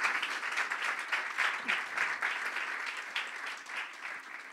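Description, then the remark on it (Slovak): A crowd applauds Jesus as king, steadily for several seconds, a dense wash of many hands clapping at once with no individual claps standing out, sustained at an even level throughout. “Ak dnes veríš tomuto kráľovi a jeho si prijal ako svojho pána, môžeš mu vzdať jeden obrovský potlesk?”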